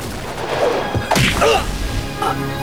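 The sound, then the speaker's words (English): A sharp, heavy punch smashes into a man's face with a brief swish just before it, one loud impact followed by a few softer rustles and scuffs over a steady background hum. “He smashes the man in the face, then stares down at his unconscious form.”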